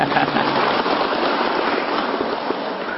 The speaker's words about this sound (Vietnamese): Nên vậy cho một chầm pháo tay.